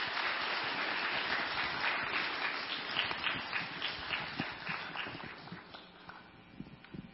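Warm applause from an audience, a dense steady patter of many hands clapping that holds strong, then gradually thins and softens toward the end, with a few scattered claps trailing off.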